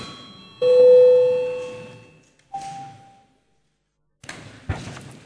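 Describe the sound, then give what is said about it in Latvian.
The Latvian Saeima (parliament) session bell, rung to call a break, sounds a loud, sustained mid-pitched tone that slowly fades, followed by a shorter, higher tone, then a few dull thumps and clatter. No one speaks. “Lūdzu zvanu.”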